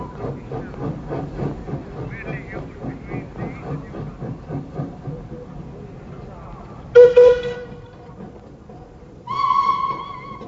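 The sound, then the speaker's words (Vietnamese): At the railway station in Lyon, a train chugs with a steady rhythmic clatter, then its whistle blows two loud, sharp blasts, one short and one sustained, as the train pulls away. “Mười lăm phút sau đó, tiếng hú vang của con tàu lửa khoái ác đã vội vàng cướp đi đứa con yêu quý nhất đời của ông.”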